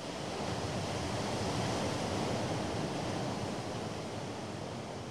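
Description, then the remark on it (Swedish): Small waves on a calm, moonlit sea wash against the shore in a steady, unbroken hiss, with no distinct individual splashes standing out. The surf stays at an even, moderate level throughout, with no voices. “Bara på den plats där dyningen brukade bryta sig guppade nu små silverklara vågor.”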